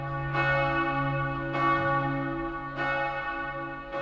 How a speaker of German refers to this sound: zeigte sich in seinem Gutachten zufrieden mit dem klanglichen Ergebnis des nunmehr wieder vierstimmigen Nippeser Geläuts.